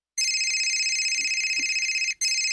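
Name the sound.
telephone call ringing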